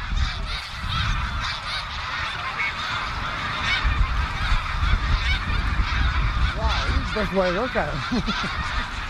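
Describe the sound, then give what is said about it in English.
A huge flock of thousands of snow geese honks in a dense, continuous clamor on a cold day, with a rushing roar of wingbeats underneath as the birds lift off together; a few louder calls stand out near the end. “He'd put on my cousin's cape because of the cold, and when the birds rose up, probably because of that hawk, so did he.”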